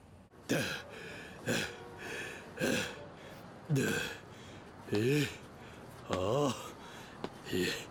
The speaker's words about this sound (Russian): Чего ты дышишь, будто бежал?